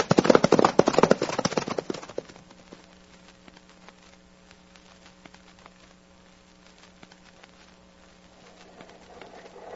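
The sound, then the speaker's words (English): Pinto horses' hooves gallop loudly and densely for a couple of seconds, then fade into sparse, faint clip-clops over a low steady hum. “Make those pintos travel.”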